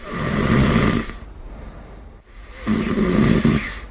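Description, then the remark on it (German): Two long, loud snoring breaths from a partner on the other side of the bed, each a rough, rumbling rasp lasting about a second, separated by a quiet pause, with no talking. “Laute Atemgeräusche und Zähneknirschen von der anderen Seite des Bettes.”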